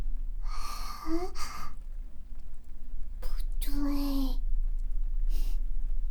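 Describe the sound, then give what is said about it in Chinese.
Several heavy, breathy exhalations and sighs come in uneven bursts, mixed with a few soft spoken words over a steady low hum. “这个呼吸声，你该不会是在做坏事吧？”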